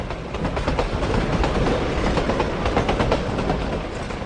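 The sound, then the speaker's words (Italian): A train rolls steadily along the rails, travelling from San Severo to Bari, its continuous rumble and rhythmic wheel clatter loud and unbroken throughout, with no voices. “Siamo per lasciare San Severo, prenderemo a breve il treno per andare a Bari”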